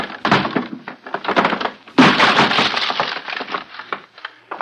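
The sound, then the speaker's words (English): A wooden door to a woman's room is forced open with heavy thuds and a burst of splintering, cracking wood. The breaking continues in rough, uneven bursts for several seconds, loud, with no talking. “Stand back! I'm going to break it open!”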